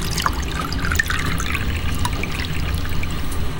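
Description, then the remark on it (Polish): Coffee is poured into a cup for a passenger on a train, a steady liquid trickle with a dense low rumble underneath, continuing evenly for a few seconds without pauses. No one speaks. “Kawa, herbata dla Państwa? Tak, dla mnie kawę poproszę.”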